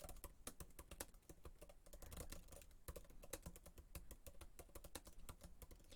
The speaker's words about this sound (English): Start typing. You have 15 minutes.